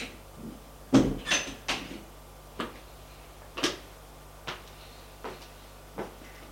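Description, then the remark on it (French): An apartment door being opened: a burst of sharp clicks and clunks, the loudest near the start, then lighter knocks at uneven intervals, with no voices. “Il a ouvert aussi l'appartement, la porte de l'appartement.”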